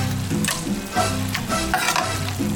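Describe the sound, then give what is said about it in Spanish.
Gallo pinto is fried in hot oil: a steady, bright sizzling hiss scattered with sharp crackles, pops and spurts, running continuously over a low, uneven humming drone. “Qué rico es comerse un buen gallo pinto y prepararlo con aceite en su punto para que mi pinto sepa al mejor gallo pinto.”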